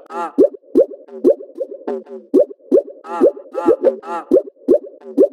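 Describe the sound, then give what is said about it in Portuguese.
Water splashing and plopping in a steady, repeating rhythm, roughly a dozen gurgling bursts over five seconds, fairly loud and with no voices. “Olha o barulho da água.”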